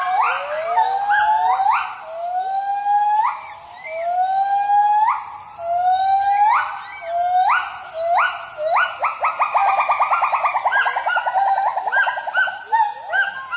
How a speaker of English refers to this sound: Each morning upon awakening, the gibbon family announces its presence using their territorial hooting call that can be heard several kilometers away.